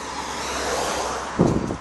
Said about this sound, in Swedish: Det blåser också ganska mycket idag. Och det kanske också hörs.